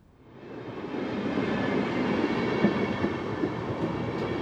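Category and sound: vehicle, train running on rails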